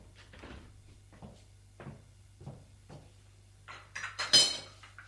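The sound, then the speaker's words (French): A maid handles a tea tray with china cups, making several soft, spaced-out clinks and clatters, then a louder cluster of rattling cups and a ringing chime as she sets it down on a low table, over a low steady hum. “Elle le dépose sur la table basse qui est vers eux.”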